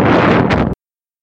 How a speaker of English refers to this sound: The sudden burst of noise there was actually the sound of me knocking that overpriced coffee onto the floor. I cut the bit where you could hear me howling.